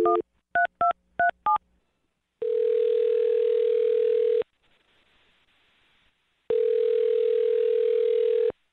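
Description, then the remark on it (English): Four quick touch-tone dialing beeps as a man's phone number is dialed, then the phone ringing back twice, each long electronic ring lasting about two seconds with a pause between. Clear, with no voices. “All right, well, I'm going to dial his phone number right now and see if we can get him on the phone, okay?”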